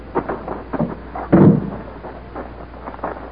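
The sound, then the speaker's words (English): A large hangar door housing a spaceship rumbles open with heavy, low grinding and a loud booming surge partway through, surrounded by scattered mechanical clanks and thuds. No one speaks. “I'll open the hangar door.”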